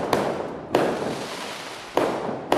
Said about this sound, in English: Firecrackers had one motto: louder, the better. Chocolate bombs that rattled windows, whistling rockets, strings of red crackers that rat-a-tatted like machine gun fire, the dodoma, which came with a double blast.